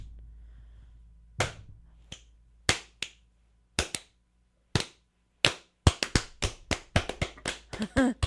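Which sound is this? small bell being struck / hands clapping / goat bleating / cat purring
hands clapping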